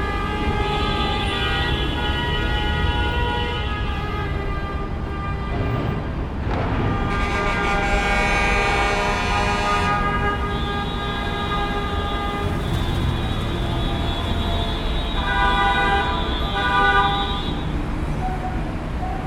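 Loud vehicle horns honk almost without pause, overlapping long blasts over a dense roar of heavy traffic on the three-level Periférico highway by an office area in Lomas, on a Monday at 7 pm, measured at 84 to 87 decibels, well over 85.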